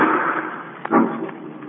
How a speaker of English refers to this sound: Margot and Lamont are in the home of the wealthy actor Hugo Zara, owner of the fabulous Ruby of Carval, when suddenly from upstairs they hear the sound of a gunshot.